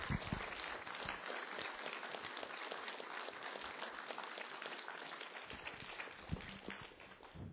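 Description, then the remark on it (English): A crowd claps steadily for several seconds to applaud the youth, a dense wash of overlapping handclaps at an even level that tapers slightly toward the end. “This sounds weird, but can we just applaud our youth this morning to say thank you for being examples?”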